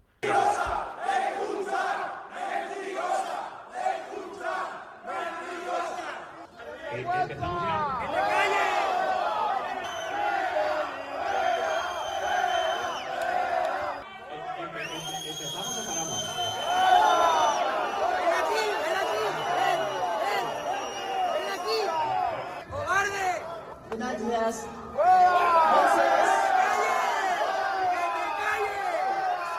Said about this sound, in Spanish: Los que gritan, los que insultan en algún caso, son accionistas y se lo hacen a la directiva del Valencia, que ha tenido que suspender la junta porque eran incapaces de empezar a hablar.